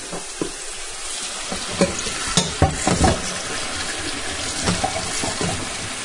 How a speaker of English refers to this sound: All right. Yeah, so the whole point of soaking rice and rinsing rice is to get all the kind of surface starch off of it. Brace yourself. There's a little water running noise.